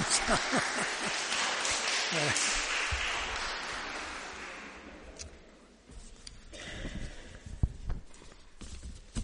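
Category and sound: crowd, audience clapping hands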